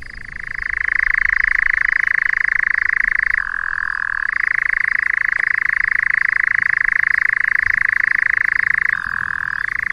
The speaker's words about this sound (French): Alors là, il ne s'agit pas d'un crapaud, mais de l'engoulevent d'Europe. Alors c'est un oiseau migrateur qui vient d'Afrique et qui se reproduit dans les milieux ouverts, comme les landes, où il dépose ses œufs à même le sol.